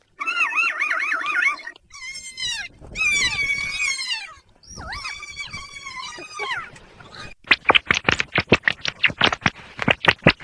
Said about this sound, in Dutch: Ik heb wel voor jullie in de aanbieding lachende papegaaien en daarna lachende ratten. Dus daar komt die.